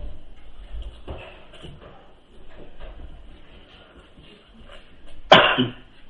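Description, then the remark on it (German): One sharp, loud cough bursts out near the end, with softer throat-clearing noises and low rumbling earlier, from a speaker who has almost got over a cough, greeting a church audience; no one speaks. “Den Husten fast besiegt.”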